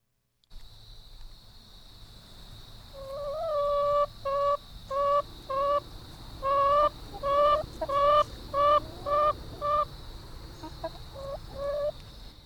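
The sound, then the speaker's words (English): Two backyard chickens, Ida and Bess, cluck in a run of about a dozen short, evenly spaced calls, over a steady high-pitched background drone and low rumble. “These are Ida and Bess, our first chickens.”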